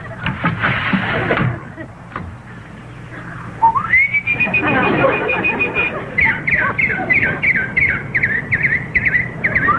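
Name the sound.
birds singing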